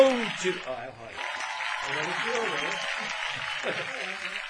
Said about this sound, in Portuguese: Os aplausos, mas não pode ficar sem aplausos. Ah, você cantou bem, merece o aplauso.